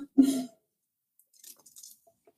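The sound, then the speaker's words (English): A short, heavy knock or clunk opens, then a scatter of faint, bright clinks and light glassy rattles as gin is poured into a very large glass. No one speaks. “I'm going to start with Julie's question because she got in first after I have a bit more gin.”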